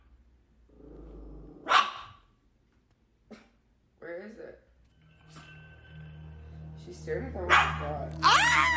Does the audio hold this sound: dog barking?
yes